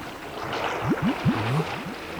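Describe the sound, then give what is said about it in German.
Someone swimming in dark water beneath the planks of a boat jetty, with steady sloshing and a quick series of soft gurgling splashes in the middle, moderately loud, with no voices. “Schwimmt da unter den Planken jemand im Wasser?”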